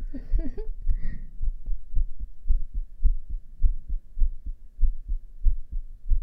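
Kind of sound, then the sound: human body sound, heartbeat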